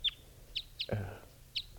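Birds calling at a capture net where one bird has just been caught: four short, high-pitched chirps spaced irregularly, with a louder, harsher squawk in the middle over a low background rumble.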